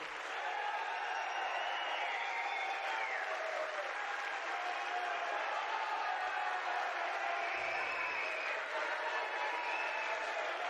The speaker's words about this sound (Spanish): Que no pare el aplauso.